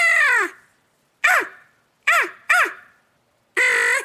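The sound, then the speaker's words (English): A crow perched in a tree, within shotgun range, caws five times, loud, each call a harsh, ragged squawk, spaced irregularly with short silences between and a quick pair near the middle. No one talks. “This crow's lit in a tree about 50 shotgun range from us if you got a turkey choke on.”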